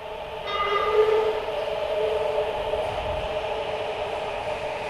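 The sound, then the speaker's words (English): A subway train pulls into a station platform, its steady rumble topped by a rising, whining metallic hum of motors and brakes that holds for several seconds. Loud, with no talking. “You get down to the train platform and appreciate the cool wind or breeze or whatever you call the rush of air the train brings before it arrives, before you even see it or its lights, because of how much it cools your sweaty head.”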